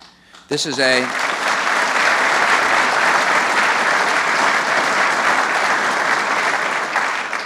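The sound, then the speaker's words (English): Sustained applause from a large audience of the nation's mayors rises abruptly after the president briefly calls on Congress for a $38 billion Homeland Defense funding increase, and continues as a steady, loud wash of clapping that holds to the end. “Those people had good reason to clap.”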